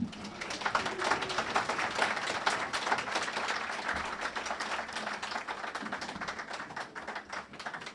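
A crowd applauds steadily, many hands clapping in a dense, continuous patter that holds at an even, fairly loud level for the whole stretch without pausing.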